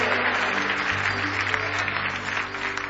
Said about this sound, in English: Give Jesus another big hand clap of praise. My goodness, let's wake up here tonight.